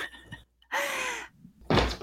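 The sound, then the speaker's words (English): A cat claws and bangs against a door trying to get out, in two harsh bursts, scraping thuds with a brief squeaky tone in the first, separated by a short quiet gap. “And I can see this cat is clawing the door to get out. You hear the banging?”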